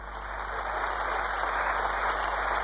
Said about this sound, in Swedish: Partikongressen jublar och väljer sin Oscar under stormande bifall till partiets kanslerskandidat.